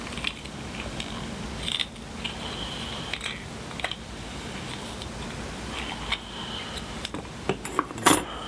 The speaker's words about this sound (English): And I'll need a little piece of that tape there. Not a pretty cut. Oh. We'll get it. The scissors.